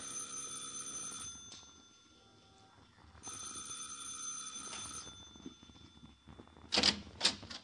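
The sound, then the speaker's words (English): A doorbell rung by police officers at a man's door rings twice in long, steady, buzzing bursts with a short pause between them, followed by two sharp clattering bangs near the end. “Now, you ring the bell”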